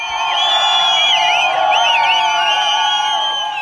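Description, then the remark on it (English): A large street crowd on Vali Asr Street, the main boulevard in Tehran, Iran, cheers and shouts nonstop in the middle of the night after the nuclear deal with the United States and other world powers was done. Many overlapping voices with rising and falling whoops form a loud, steady roar throughout. “Here was the sound on Vali Asr Street, main boulevard in Tehran, middle of the night after the nuclear deal with the United States and other world powers was finally done.”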